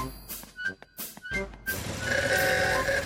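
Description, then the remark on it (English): The small motor mower engine of Grandpa Pig chugs and drones steadily and loudly as he drives it over to Peppa's house, after a few short clattering bursts at the start; no one speaks. “Grandpa Pig is driving his motor mower over to Peppa's house.”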